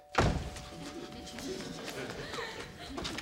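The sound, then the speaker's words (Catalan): A door closes with a single heavy thud right at the start as someone arrives at an apartment at night, then a muffled ambience follows with faint indistinct voices and small movements. “encén els llums de la sala i passa cap a la porta.”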